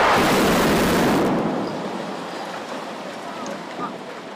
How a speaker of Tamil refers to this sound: முன்னதாக பிற்பகல் 2 to 4 கட்டடம் இடிக்கப்படும் என்று அறிவிக்கப்பட்டிருந்தாலும் மாலை 6:30 மணியளவில்தான் இந்த கட்டடத்தில் உள்ள வெடிபொருட்கள் வெடிக்கச் செய்யப்பட்டு கட்டடம் இடிக்கப்பட்டது.